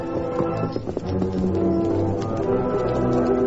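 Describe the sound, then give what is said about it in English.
Horse hooves clip-clop in a steady, quick rhythm as horses are led over, over a continuous, full background of sustained musical tones, with no one speaking. “Then lead the horses over to where we can see them.”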